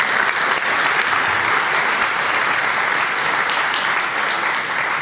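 Steady, dense applause from an audience at the GPN after a performance, a continuous wash of many hands clapping at an even, fairly loud level for the full five seconds, with no voices standing out.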